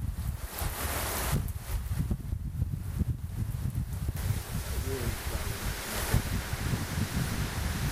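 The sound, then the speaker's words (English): Strong wind roars steadily and rustles tree branches outside at the back of a house, a dense, continuous rush with gusty low rumbling that stays loud throughout and swells briefly near the end. “There's been some strong winds coming through here.”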